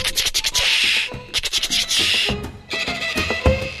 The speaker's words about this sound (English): And there's a sound effect called tichada, which means cicada. And it's a really scratchy sound that they actually bow behind the bridge. And it goes...